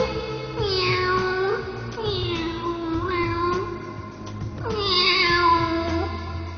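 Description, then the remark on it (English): A cat meows repeatedly, giving three or four long, drawn-out, wavering cries in close succession, loud, over a steady low background hum. “Meow!”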